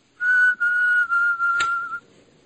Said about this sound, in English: Someone was whistling when the lights went out before.